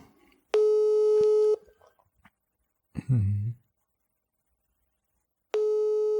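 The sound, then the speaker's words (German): A telephone busy tone after the called person rejects the call: two steady, buzzy one-second beeps separated by a long gap, with a brief muffled low thump in between. The tones are clear, as if heard through a handset. “Aber es geht doch ganz schön schnell an, ob er uns wegdrückt.”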